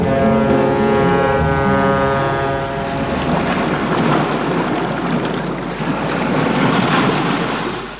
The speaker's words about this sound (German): Wellen brechen sich am Strand von Santa Lucia in der Karibik.